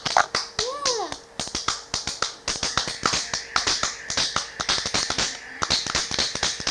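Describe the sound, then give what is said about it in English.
Hands clap over and over in an uneven, fairly quick rhythm, sharp bright smacks filling the whole stretch, with a brief high child's vocal squeal near the start. “You are clapping your hands.”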